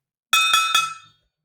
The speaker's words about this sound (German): Klingt nach Topfdeckel.